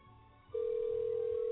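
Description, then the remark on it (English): A telephone call placed by pressing a button rings on the line: after about half a second of low hum, a steady, loud low-pitched ringback tone starts and holds unbroken to the end. No one speaks. “Why is it ringing more than once? It shouldn't ring more than once.”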